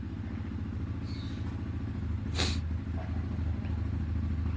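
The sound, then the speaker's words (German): A quad bike engine drones steadily, its low rumble rising briefly into a louder rushing surge midway as it passes, with no voices. “Jetzt schauen wir mal, was überhaupt für ein Auto ist. Ach, so ein Quad, ey.”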